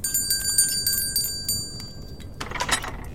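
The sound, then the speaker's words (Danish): A small hand bell rings with a rapid, shimmering series of bright metallic strikes, its tones hanging briefly before fading, followed by a short burst of rustling noise. “Min klokke, her var den.”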